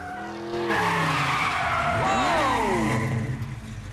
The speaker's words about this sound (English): A red car with white pointed stripes down the side flies out of the underground car park. Starsky reverses back and spins a 180 right next to Hutch.